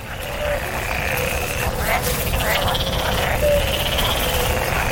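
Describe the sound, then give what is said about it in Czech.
At the Bara Reva pond in Belgrade, Serbia, about 6 km from the city centre, a steady chorus of frogs croaks and trills with birds chirping over constant insect buzzing, with heavy wind rumble filling the low end throughout; a burst of pulsing, rattling calls rises in the middle. “Kad čujete ovaj cvrkut ptica, žabe, insekte, vetar, da li biste mi poverovali da se nalazim u Beogradu, na samo 6 km od centra grada?”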